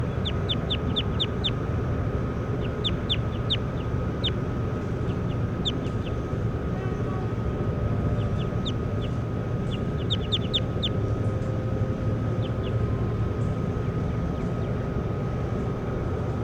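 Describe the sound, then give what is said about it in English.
Short, high-pitched bird chirps come in quick bursts of several notes, repeating irregularly over a steady low rumbling hum that fills the whole recording. “Bird 10. Stop. Start recording 10 again. That's 10.”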